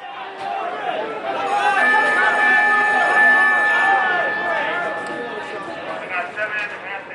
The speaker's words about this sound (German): Chicago Board of Trade, 13.15 Uhr. Mit Glockenschlag schließt die größte Warenterminbörse der Welt.